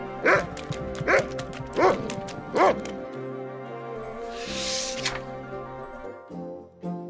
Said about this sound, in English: Floppy was being chased by a bigger dog.